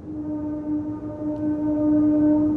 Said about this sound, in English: Those horns are coming from a railway station about a mile and a half from our home.